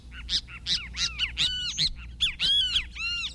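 Kiskadee flycatcher calls ring out in a rapid series of loud, harsh, high-pitched notes with arching, slurred shapes, delivered in quick bursts with no talking over them.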